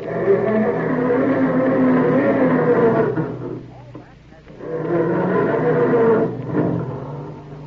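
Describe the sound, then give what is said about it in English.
A family car engine struggles to start in the morning, groaning and grinding in two long, loud cranking bursts separated by a brief pause, with the second attempt sputtering and tapering off. “Or does your car sound more like this when Dad goes to start it up in the morning?”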